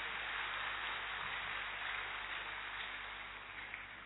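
An audience claps steadily for about four seconds, a dense, even wash of many hands that fades slightly toward the end, with no voices over it.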